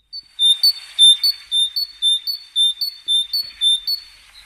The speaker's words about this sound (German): Das heißt, Paddy, die Vögel sind wieder da.